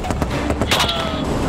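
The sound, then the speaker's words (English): Several sharp gunshots crack in quick, irregular succession during a firefight in which a team and its helicopter on the ground come under fire, standing out over a loud, steady roar of background noise. “But we're still under fire.”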